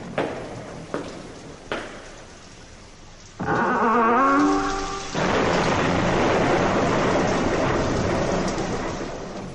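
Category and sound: nature, thunderstorm with heavy rain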